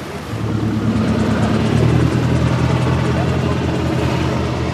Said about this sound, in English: We are now approaching the village of Isle. A helicopter is hovering in the sky. Nothing is left to chance here. The security is very tight.